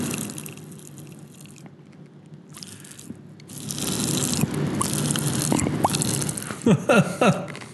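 Loud chewing of crunchy Kool-Aid Pop Rocks candy, with wet mouth clicks and crackles that grow busier partway through, then a few sharper crunching bursts near the end. No talking.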